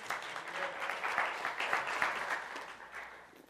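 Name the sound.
audience clapping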